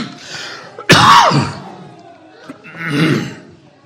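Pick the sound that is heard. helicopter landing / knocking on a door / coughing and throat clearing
coughing and throat clearing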